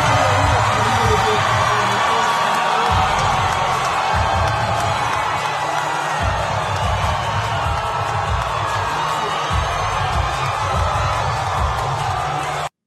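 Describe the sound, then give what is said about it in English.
A large crowd at a political rally for President Trump in South Carolina roars and cheers continuously and loudly, with a dense wash of voices and a low, rhythmic thumping pulse underneath throughout. “There he is, South Carolina, man. He just wowed the crowd.”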